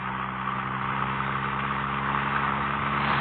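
car engine running

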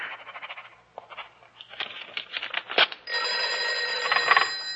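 telephone bell ringing

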